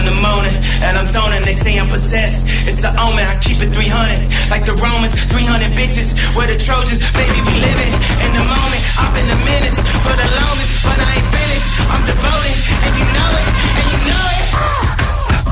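A loud hip-hop track with heavy, booming bass and pounding drums under shouted, chant-like vocals; about halfway through, the beat shifts to a denser, clattering rhythm.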